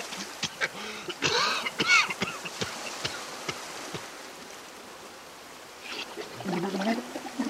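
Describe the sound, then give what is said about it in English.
A whale coughs over and over with a grate lodged in its throat, a run of loud, rough, honking bursts clustered early on, then quieter scattered hacks and a final noisy flurry near the end, with no talking. “Whale is very angry. He coughs and coughs, but the grate doesn't move.”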